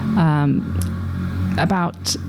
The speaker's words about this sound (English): That was a very noisy motorbike that went past. I think they were interested in that topic.